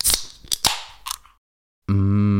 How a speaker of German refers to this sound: Deswegen, liebe Leute, ich mache euch jetzt mal ein Geräusch natürlich. Prost, Prost auf euch. Ich mache mir mal kurz einen Obstler auf, ne?